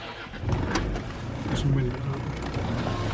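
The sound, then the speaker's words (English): An old, derelict wrecked car, the only proper car on an island, runs its engine with a steady low rumble and a few rattly mechanical knocks, while voices murmur faintly in the background. “Is this the only car on the island? This is the only proper car, yeah.”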